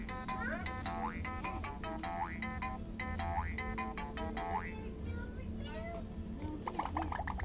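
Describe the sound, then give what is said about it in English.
Water bubbling in a steady run of gurgling pops, each blip sliding upward in pitch, repeating quickly and fairly loudly over a low, constant rumble for the whole stretch. “It's bubbles.”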